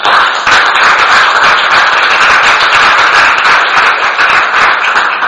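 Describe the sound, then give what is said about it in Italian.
An audience applauds a professor at the end of his talk, loudly and steadily for about five seconds: a dense, even wash of many hands clapping with no voices heard over it. “Bene, ecco, siamo ringraziati il professore, un bel applauso.”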